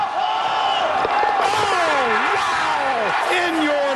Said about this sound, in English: At 16, listen to the crowd. They're going to go nuts when he hits this thing.